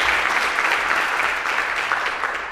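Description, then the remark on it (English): A crowd applauds three people, dense overlapping claps forming a loud, continuous wash of noise that holds for the whole stretch and tapers off only slightly at the end. “And I think another round of applause for all three of them.”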